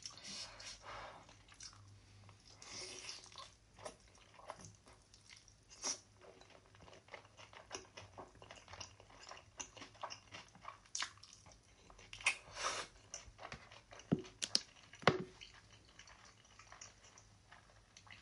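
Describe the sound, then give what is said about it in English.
Wet chewing of noodles with chicken and crunchy radish on top, irregular squishy bites and slurps with a few sharper crunches, no talking, quiet background hum throughout. “Okay, chicken, noodle, and radish.”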